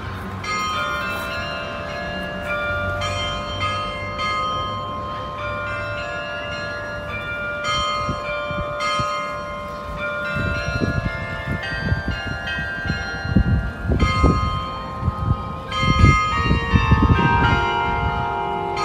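Church bells ring out a pop-style melody, with overlapping notes that sustain and shimmer. The chiming is steady and fairly loud, with some low rumbling background noise growing toward the end, and no talking.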